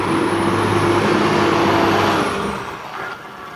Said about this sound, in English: Trash truck coming.